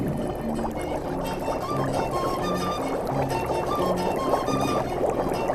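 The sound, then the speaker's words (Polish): Cold water from an underground river bubbles and gurgles steadily where it wells up on a salt flat, a continuous churning liquid sound with small rising pops, loud and unbroken with no voices. “Fajnie to bulgocze, a tam jest takie malutkie.”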